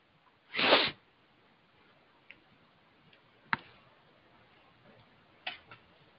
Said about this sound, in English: I'm sorry, just sniffling up a storm.